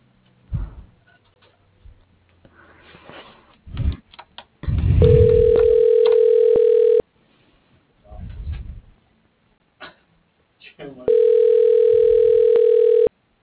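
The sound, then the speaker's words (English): A loud, steady electronic phone tone blares from a handset held to the ear in two long bursts, each about two seconds, separated by short clicks, thumps and handling noises. “My phone's yelling in my ear.”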